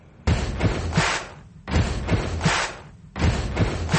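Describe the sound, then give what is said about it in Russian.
Heavy, booming heartbeat thuds pulse loud in three steady bursts about every second and a half, each carrying a cluster of deep low thumps, with no voices. “А вот так стучит сердце тех, кто уже купил квартиру”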